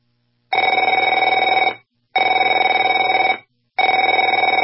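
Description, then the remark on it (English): A telephone bell rings in three long bursts, each about a second and a half of rapid, loud metallic trilling, separated by short silences. No one speaks. “Afraid to answer it?”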